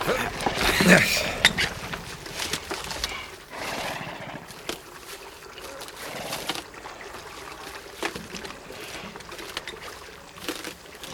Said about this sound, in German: Lass die Pferde saufen.